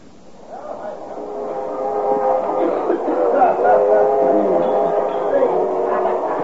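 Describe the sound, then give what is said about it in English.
Busy train club car ambience: a steady rumbling hum of the moving train with a dense murmur of overlapping conversation and chatter, rising slightly and holding at a constant loud level. “Of a noisy spot you got here, bud. Club car's always a popular place, sir.”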